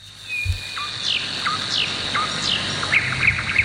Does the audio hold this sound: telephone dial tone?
no